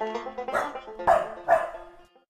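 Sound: dogs barking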